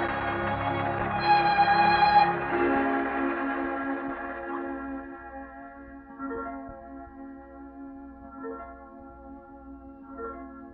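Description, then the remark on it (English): Church bells ring out in a rich, overlapping peal, loudest at the start, then a long shimmering decay with a few softer strikes recurring every couple of seconds, with no voices. “Play us a tune on an unbroken spinet and let the bells ring.”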